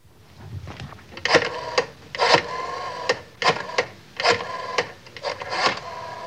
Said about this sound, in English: Rotary phone.